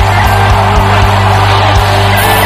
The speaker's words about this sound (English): If you can shout, the blessing is upon your head. Come on, scream.